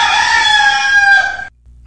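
A rooster crows loudly in one long, sustained call lasting about a second and a half, then it cuts off abruptly into near silence.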